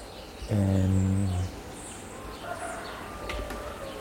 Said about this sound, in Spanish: Y sí, un gallo está llamando. Un gallo. Y unos pajaritos.